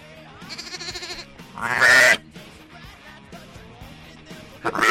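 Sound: sheep bleating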